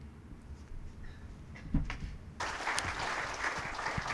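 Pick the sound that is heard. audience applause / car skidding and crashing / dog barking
audience applause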